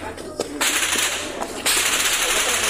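Several sharp cracks of gunfire from crossfire in Chiapas, Mexico ring out at irregular intervals over a constant roar of wind-like noise, the shots echoing.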